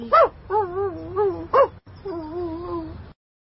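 dog

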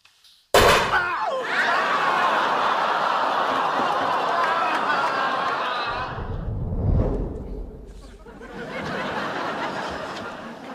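gunshots

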